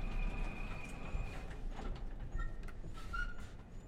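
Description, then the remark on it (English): Lift doors slide open at the -1 level with a steady mechanical whir over a low motor hum, joined by a few short high squeaks and a brief tonal chime near the end. “Doors opening.”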